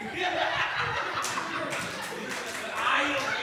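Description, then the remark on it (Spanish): A comedy audience claps steadily for a few seconds after a joke about "la mano ajena", a dense, crackling burst of applause with some laughter mixed in, holding at an even level throughout. “No puedo creer que dije un chiste buenísimo de Hitler y la mano ajena sacó aplauso.”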